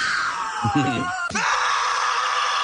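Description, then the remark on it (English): A steady frying sizzle of sausages cooked at high heat carries a high, wavering squeal like a thin scream, with a brief jolt partway through as the pan is shaken, and the shrill whine continues alone. “They're just cooking them at high heat, and when they shake the pan, The screams start to happen.”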